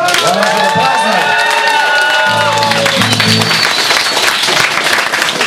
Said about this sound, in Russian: Добрый вечер, клуб «Черчилль». Давайте еще раз такими же, только более бурными аплодисментами поздравим Александра Чернецкого с днем рождения.